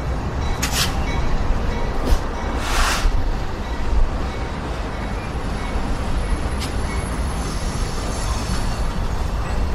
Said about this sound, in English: and there's a freight train. Wow.